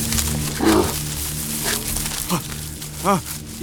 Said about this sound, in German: Ein Bär! Nein.